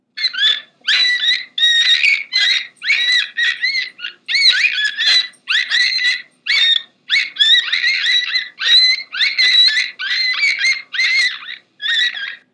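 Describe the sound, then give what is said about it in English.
A beluga whale, the sea canary, a marine mammal of the Arctic, calls in a rapid string of high, chirping whistles and squeaky trills, repeated in short bursts with brief gaps, loud and alone without any talking. “Now, here is creature call number one from the contest, which is the sound made by a marine mammal that lives in the Arctic and is known as a sea canary.”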